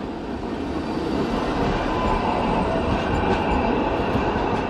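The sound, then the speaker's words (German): Line 2 trams roll past, heading toward Kossuth Square and the Parliament, a loud, steady rumbling of wheels on rails with faint metallic rattling that carries on throughout without pause. No one speaks. “Straßenbahnen der Linie 2 ziehen an uns vorbei.”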